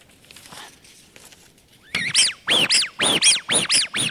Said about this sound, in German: Deswegen haben diese ganzen Enten heutzutage keine Pfeife mehr drin, die das Quietschen verstärkt, sondern das Ganze ist auch limitiert, wie laut so eine Ente sein darf. Wir machen mal kurz den Test.